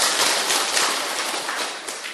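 A crowd of Buddhist followers applauds at the teacher's request during a talk, steadily, dense overlapping hand claps forming a loud, even wash of noise that holds without pause for a couple of seconds, with no voices.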